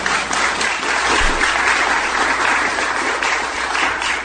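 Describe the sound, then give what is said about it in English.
Steady audience applause from an evening crowd at Temple Israel, clapping to show they are present: a dense crackle of many hands clapping at an even, fairly loud level throughout, with no voices standing out. “Why don't you applaud to let everybody know that you're here?”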